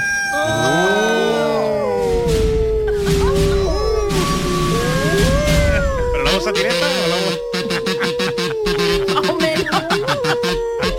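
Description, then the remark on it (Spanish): Long, wavering howls of a wolf in heat glide up and down in pitch, several voices overlapping into a continuous, loud chorus that carries on for about ten seconds. “No vea la que está dando el lobo en celo, el lobo...”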